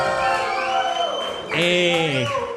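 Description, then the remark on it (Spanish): An audience breaks into applause mixed with loud vocal cheering and whooping, with rising and falling shouts swelling midway through and continuing steadily to the end. “Que la que dulce, un aplauso, por favor, energía.”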